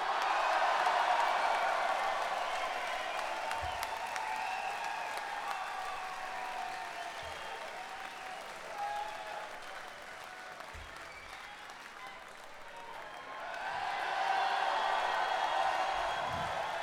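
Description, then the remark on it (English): A crowd applauds and cheers steadily for about seventeen seconds for doghouse bass player Lee Rocker, a dense wash of clapping that dips slightly in the middle and swells louder again near the end, with a few low thumps. “Don't cheer him yet, I haven't introduced him.”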